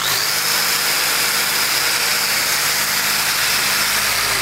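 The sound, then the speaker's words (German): An angle grinder cutting steel runs steadily and loudly, a harsh, hissing high-pitched whine with a constant tone that holds unbroken throughout, with no talking. “Ich muss gestehen, es war das erste Mal, dass ich eine sogenannte Flex in der Hand gehalten habe.”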